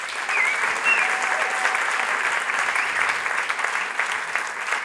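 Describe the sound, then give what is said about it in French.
Sustained audience applause for oud player Ziad Ben Youssef, a dense steady patter of many hands clapping at an even loudness for the whole stretch, with a couple of faint whistles briefly rising above it near the start. “Et je connaissais Ziad Ben Youssef, mesdames, messieurs, que vous pouvez applaudir.”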